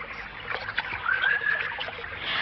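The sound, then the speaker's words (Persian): Water splashes and dribbles in a steady, uneven patter as someone scoops and sips cool water from a spring in a forest, with a brief thin whistle rising through the middle. “آخی چه آب خنکی. حالا شما بفرمایید. آب خوبی داره.”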